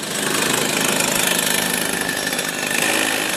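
A go-kart engine, warmed up by driver Lance before another practice for the World Champs, buzzes loudly and continuously, a harsh, raspy high-revving drone that holds steady throughout with no one speaking.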